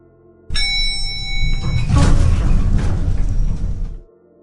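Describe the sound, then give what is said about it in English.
Elevator doors slide shut with a steady, loud mechanical rumble and a faint whine for about three seconds, ending in a soft thud as they meet. No one speaks. “The doors closed, while I thought to myself”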